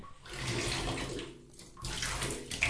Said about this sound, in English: I'm going to turn off the faucet here for a second. All right, now pouring in some bubble bath.